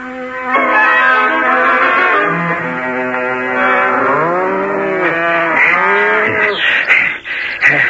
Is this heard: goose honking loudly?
no